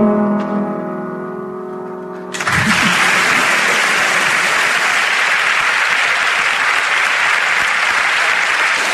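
A sustained burst of loud audience applause for a performing musician, dense and steady clapping, begins abruptly after a couple of seconds of held musical tones and continues to the end.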